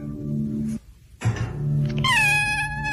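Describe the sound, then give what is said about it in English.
A cat meows in a few drawn-out calls, the last one rising into a long, bright, wavering yowl, with a brief pause of near silence between the first two sounds. “And it's apparently, even when the cat is asleep, you can see the cat eyes closed and then the... Off he goes.”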